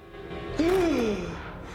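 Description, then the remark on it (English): A man's sharp, voiced gasp bursts in suddenly as he sits bolt upright in a bed, rising then trailing off into a breathy exhale, fairly loud over a low background hum. “His eye heals almost instantaneously, and he gasps as he sits bolt upright.”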